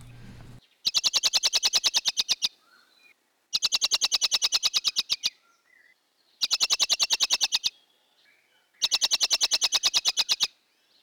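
A blackbird gives its rapid chattering alarm call, the call it makes when an enemy approaches on the ground, in four loud bursts, each a quick run of sharp clicking notes separated by brief pauses.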